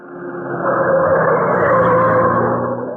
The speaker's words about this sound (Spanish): El pequeño auto corre a toda velocidad. Se aproxima a la valla fronteriza.